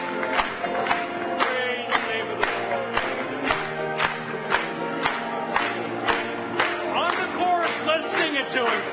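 A church audience claps hands in a steady, even rhythm, sharp beats about twice a second, over loud group singing of a Portuguese hymn with musical accompaniment.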